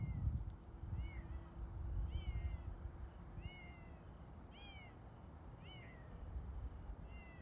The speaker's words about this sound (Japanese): 猫ですか？猫こんな鳴きますっけ？こんな冬の時期に。